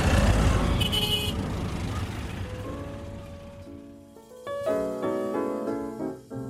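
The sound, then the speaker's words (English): Busy New Delhi city traffic rumbles and hisses, then car horns start honking, several sustained steady-pitched blasts overlapping one another and growing louder toward the end. “when you actually experience a day riding around in New Delhi traffic.”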